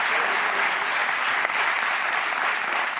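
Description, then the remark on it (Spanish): A crowd applauds steadily, many hands clapping in a dense, even wash of sound that holds at a constant loudness for a few seconds with no voices standing out. “El grumet, el insulto genérico, vale, pues joder, muchas gracias, un aplauso para estos muchachos que han hecho el insulto definitivo.”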